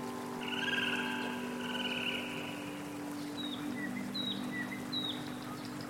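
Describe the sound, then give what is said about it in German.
Songbirds chirp in short, bright calls, a few spaced notes in the latter half, over a steady low motor drone and water wash on a river in the afternoon sun. No one speaks. “Das säuselnde Wasser und die Singvögel untermalen den Augenblick.”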